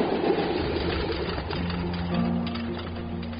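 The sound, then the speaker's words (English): The right engine of a C-46 aircraft, run by a maintenance crew checking whether it still leaks oil, idles with a continuous low rumble and humming tones, holding an even volume from start to finish with no voices. “They ran it a couple times.”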